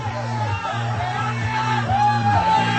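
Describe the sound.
A lively crowd of 36 people surrounding a Techno Ball game shouts and whoops together, a dense, continuous wall of overlapping voices with occasional rising yells cutting through, fairly loud for the whole stretch.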